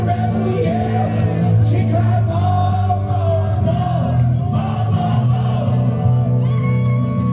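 A large concert crowd sings along loudly with live music, many voices merging into a dense, steady roar with shouts and yells rising throughout.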